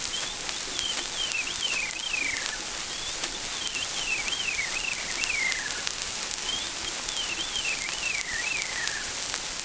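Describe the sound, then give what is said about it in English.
A veery sings three times in nearby woods, each phrase a breezy, downward-spiraling trill, set against a steady hiss of background noise like light rain. “In the nearby woods, the veery trills an enchanting song.”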